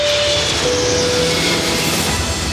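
A loud, steady jet roar of an Iberia airplane taking off, a dense rushing noise with thin high engine whines drifting slightly in pitch, lasting the whole few seconds with no voices.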